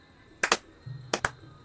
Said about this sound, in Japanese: では早速わらわの後に続いてくださいね。二礼、二拍手、